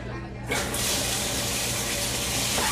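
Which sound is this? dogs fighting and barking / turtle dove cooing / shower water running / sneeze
shower water running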